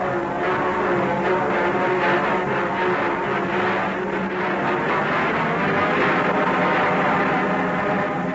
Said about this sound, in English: The train rolls in. It seems massive after the subway trains of Boston, New York, and Philadelphia. Very handsomely upholstered and comfortable. And it goes like a bat out of a tube station.